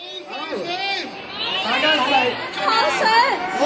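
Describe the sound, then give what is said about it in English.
A dense, continuous babble of many voices from a large street protest crowd in Hong Kong calling for more democracy, steady and fairly loud throughout, with overlapping shouts and chatter but no single clear speaker. “Huge crowds in the street.”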